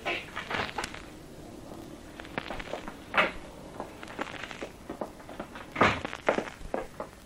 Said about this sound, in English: This the station master's office, copper? That's it. Just in there. Well, go on, open the door and go in. Okay.